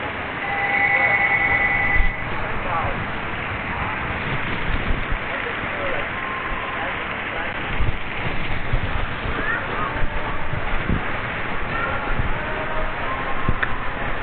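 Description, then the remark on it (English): A water fountain runs steadily in the background, a constant rushing, splashing wash that never lets up, with indistinct voices murmuring underneath. “As you can probably hear, there's a water fountain in the background.”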